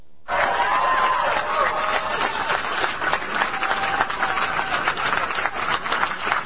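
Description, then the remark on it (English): A crowd breaks into loud, sustained applause with scattered cheers and whoops, a dense steady roar of clapping that holds for several seconds without any speech. “I'm not deliberately trying to give myself applause lines, but it's just working out that way, which I take as a sign of divine approval.”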